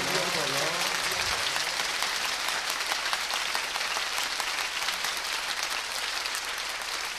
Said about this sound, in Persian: زن مرد به عشق امام رضا، این دستاتو بیار بالا، یه دقیقه کف مرتب به عشق امام رضا بزن. هیئت الرضایی ها کف زدنشون شب امام رضا باید یه جور دیگه باشه.